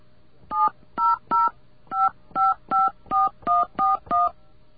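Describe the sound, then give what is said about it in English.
A quick series of ten touch-tone beeps as a phone number beginning 1010-502 is dialed, each tone short and evenly spaced with brief gaps, clear, with no talking. “Wonder if our phone system could even handle this.”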